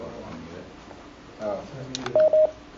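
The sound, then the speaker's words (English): Two short, steady electronic telephone tones beep in quick succession near the end as someone calls in by phone to a public meeting, following a stretch of murmured background voices and room noise. “Somebody has called in on the phone.”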